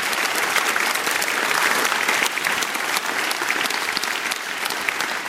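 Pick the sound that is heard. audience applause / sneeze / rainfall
audience applause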